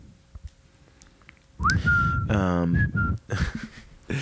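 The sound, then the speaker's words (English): A person whistles a short theme-song melody, a few sustained and gliding notes starting after a quiet moment, with a brief voiced or laughing sound breaking in partway through. “I'm gonna whistle the theme song.”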